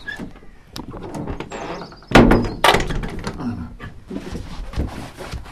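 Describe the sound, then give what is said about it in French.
A heavy fake armored door, made entirely of scrap iron and built with a piece of an old hatch, is handled, with two loud clanking thuds about half a second apart amid rattling and scraping, then fading creaks and soft movement. “C'est une fausse porte blindée, hein. Elle est très impressionnante, parce qu'elle est toute en ferraille, mais voilà, elle est assez simple, en fait.”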